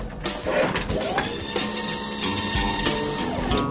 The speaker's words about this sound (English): A secret revolving wall.